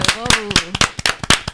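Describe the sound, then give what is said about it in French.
Audience applause in sharp, irregular hand claps, fairly loud and uneven in rhythm, with a voice briefly calling out over the first half. “Ça y est, maintenant je peux applaudir.”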